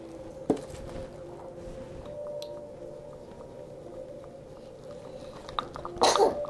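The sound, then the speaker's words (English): A quick, muffled sneeze near the start, then a louder, sharper sneeze toward the end, over a low steady background hum with no talking. “Bless you, sweetie.”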